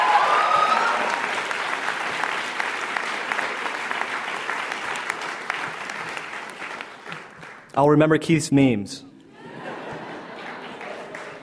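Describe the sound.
Sustained audience applause, a dense wash of many hands clapping at steady loudness, then a single voice speaks briefly over it before the clapping thins out and fades.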